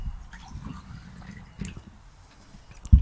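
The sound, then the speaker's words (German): Water pours into a glass, a low, steady gurgle with small splashes, ending in a sudden louder knock. No one speaks. “Aber Wasser kommt gut.”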